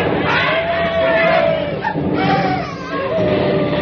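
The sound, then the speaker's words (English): A dense crowd of soldiers charging to take a flag, yelling in a sustained, loud roar of battle cries, overlapping shouts rising and falling together with no pause for the whole stretch. “The ground shook from the rushing of the men.”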